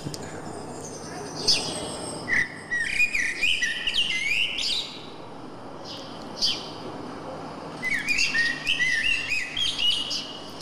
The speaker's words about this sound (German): Der letzte Triller, Amsel und Sperlinge waren das. Ja, Sperlinge, genau.